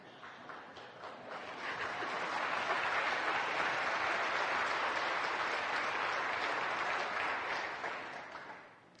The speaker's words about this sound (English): If so, you may raise your hand and we will applaud.